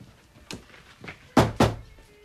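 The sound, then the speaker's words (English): Knocking on bedroom doors with a lacrosse stick: two softer, spaced knocks followed by two loud, sharp raps close together, with no voices. “grabs her lacrosse stick and knocks on her siblings' doors.”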